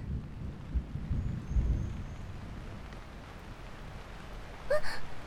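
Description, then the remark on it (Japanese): Steady, unforecast rain hisses throughout on a street in an area of hotels, with a deep rumble like thunder near the start and a brief higher-pitched sound near the end. “雨？今日の天気予報では雨なんて言ってなかったのに。”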